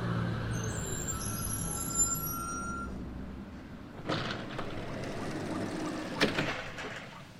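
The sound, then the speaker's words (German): A bus pulls up at a bus stop around 5:35 in the morning with a low engine rumble and high squealing brakes, then two sharp bursts of air-brake hiss. Nobody speaks. “5.35 Uhr muss ich zur Station gehen, auf Bus warten, Bus fährt bis Bahnstation, warten auf U-Bahn.”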